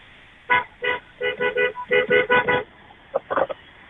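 A car horn, honked from a car turning at the Domino's corner near Mill Street, sounds in a quick series of short, bright beeps, about nine in an uneven rhythm, then a brief pause and a few more rapid toots to finish.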